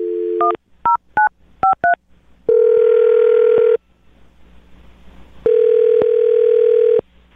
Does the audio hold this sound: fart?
no